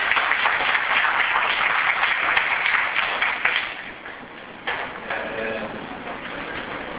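An audience breaks into steady applause, a dense patter of many hands for about three seconds before it thins and fades, leaving low murmur and a few scattered sounds, welcoming a teacher invited to give a talk.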